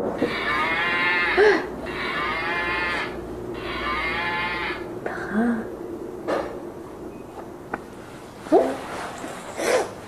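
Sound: cow mooing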